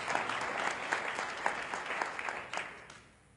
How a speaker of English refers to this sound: Well, there's other things as well. Well, you can clap for them because they deserve it.